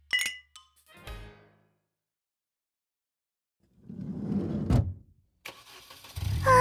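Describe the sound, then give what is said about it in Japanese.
A few light clinks and a soft thump, then a short quiet before a car engine cranks, catches with a throaty roar and settles into a low, steady rumble, as the car is started to drive home. “さあお家に帰ろう。いつものことだけど、運転を任せきりでごめんね”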